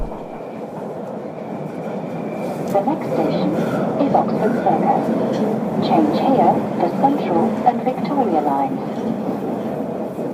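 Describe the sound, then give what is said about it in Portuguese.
A subway train in London rumbles steadily along the tracks with a continuous loud roar and faint rattling, while voices murmur indistinctly in the carriage throughout. “Isso mesmo, o nosso metro, ou o nosso avião, trouxe-nos até terras de Sua Majestade.”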